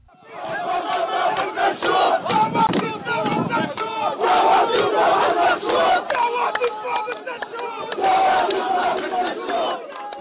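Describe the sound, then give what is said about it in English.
A crowd of hundreds protesting US President Obama's visit shouts and chants anti-Obama slogans in loud, rhythmic unison near the Dehesha refugee camp in Bethlehem, West Bank, voices surging and overlapping steadily for the whole stretch with brief swells of louder cries. “People chanted anti-Obama slogans and expressed anger at the Palestinian Authority”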